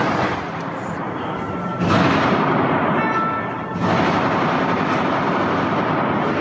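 Dense, continuous rattle of gunfire from terrorists' war weapons at the Bataclan at night, answering precision shots by intervention forces, with rumbling bursts, loud and steady throughout, swelling in two stretches with a faint tonal whine in the middle.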